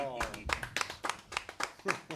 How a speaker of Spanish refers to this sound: ¡Fuerte el aplauso!